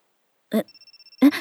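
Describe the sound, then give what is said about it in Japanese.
A telephone rings with a rapid, high electronic trill lasting under a second, set between two short bursts of a voice, as a call comes in from a boyfriend. The ring is thin and steady, moderately quiet. “今日に限って彼氏から電話かかってきて。”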